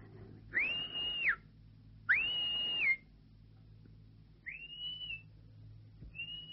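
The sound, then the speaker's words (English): A person whistles a few sustained, steady notes, two long tones close together followed by two shorter, fainter ones, clear, with no talking. “Who's that whistling?”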